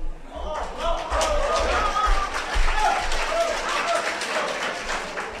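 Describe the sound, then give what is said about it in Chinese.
A large audience applauds steadily for several seconds after a Deyunshe xiangsheng (Chinese crosstalk comedy) performance of "Chi Yuanxiao", a dense, loud wash of overlapping claps that never lets up, with some crowd voices mixed into the noise. “今天大家的掌声格外热烈， 是 我们也感到很高兴 啊。”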